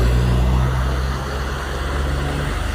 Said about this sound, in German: Klingt wie ein LKW.